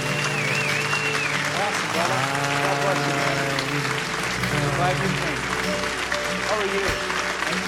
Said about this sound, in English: Come, and you'll find a lot of applause and cheering for you. Just come stand right up here.